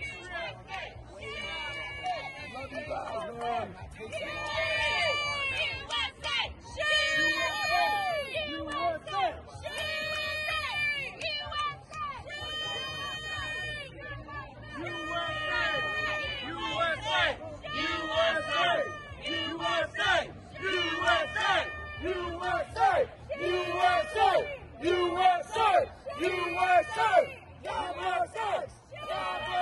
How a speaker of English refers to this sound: Their pathetic screeching chants are now competing with patriots chanting out, USA! USA!